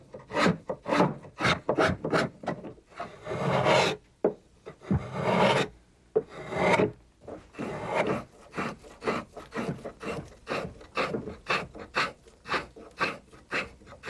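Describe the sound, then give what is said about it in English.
A rapid series of short, raspy scraping strokes as a spokeshave shaves and rounds out the body of a carved wooden duck, repeating in an uneven rhythm with a few longer pulls in the middle, with no one talking. “We take the spokeshave and round out the body.”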